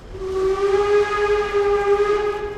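A steam train whistle blows one long, steady, loud blast with a harmonic-rich tone, held for about two and a half seconds over a faint rumble.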